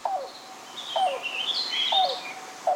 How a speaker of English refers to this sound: The call of the yellow-billed cuckoo may sound a bit like a car engine struggling to turn over before revving to life. But for generations and generations, people recognize these rattling gulps and hollow hoots as a precursor to something else. Rain.